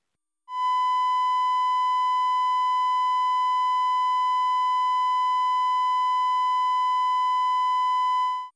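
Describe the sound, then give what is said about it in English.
A steady, mellow electronic tone at a constant high pitch plays alone for about eight seconds, slightly brighter and buzzier than a pure sine, starting and stopping cleanly. “And this is the 1000 Hz triangular wave.”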